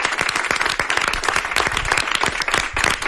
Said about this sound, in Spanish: Un aplauso para todos vosotros. Muy grande.